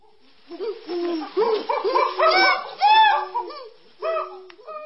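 Wild chimpanzees playing in the forests of Uganda, recorded by scientists from Oxford University; their hoots and squealing calls rising and falling in overlapping bursts, loud and excited, with brief pauses between flurries.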